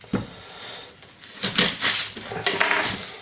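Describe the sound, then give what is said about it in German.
A knife dices an onion into small cubes on a cutting board for beef roulades, in a quick, uneven series of crisp cuts and taps, with no talking. “Schneide ich hier schön wieder in meine bekannten Würfelchen.”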